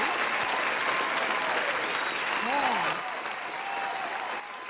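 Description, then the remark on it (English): A steady, dense burst of clapping from a group fills the whole stretch, loud and continuous, with a brief vocal whoop or cheer rising near the middle before the applause eases slightly. “All right, so I'm going to give everyone an applause that they will keep on doing next week.”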